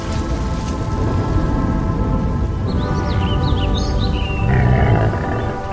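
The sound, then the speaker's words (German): Steady, dense rainfall hisses continuously at an even level at an outdoor facade paint test site in Ernsthofen, with a few faint bird chirps rising above it midway through. No one speaks. “Regen, Nebel, Feuchtigkeit und Sonne. Hier gibt die Natur alles.”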